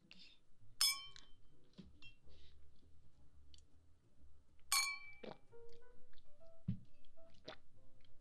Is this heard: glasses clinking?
yes